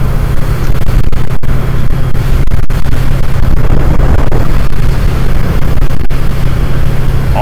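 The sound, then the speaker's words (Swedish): A car engine drones loudly and steadily at around 4000 rpm on a winding road, a constant throaty hum with road and wind rush filling the background throughout, no voices present. “Fortfarande bara runt 4000 varv.”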